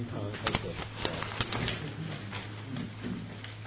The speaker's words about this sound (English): All the paper rustling was for four words.